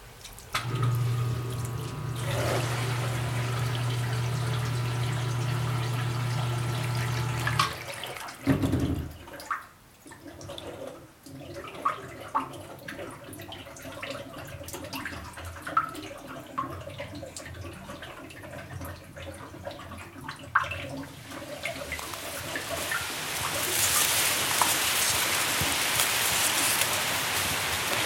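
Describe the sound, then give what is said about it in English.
Groundwater trickles and drips steadily across a cellar floor into a hole, with a low mechanical hum at first that cuts out, leaving a gentle splashing flow that grows brighter and more hissing toward the end. “It trickles across the cellar floor and into a hole.”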